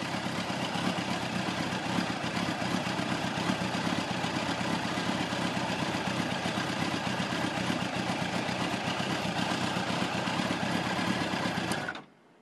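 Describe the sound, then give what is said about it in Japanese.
A motorcycle engine runs continuously at an even idle with a fast mechanical rattle, loud, holding the same level for about twelve seconds before cutting off abruptly. No one speaks. “台風だらけのこの時にバイクに乗れないと、 うん、 ラジオでツーリングしてやるよ。”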